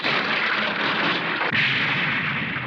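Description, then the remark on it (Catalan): A stone column cracks and collapses after a staff is pointed at it: a loud, dense rumbling crash of crumbling rubble that roars steadily, briefly dips, then surges again before continuing. No one speaks. “Assenyala amb el bastó la columna i l'esquerda s'escampa i la fa caure.”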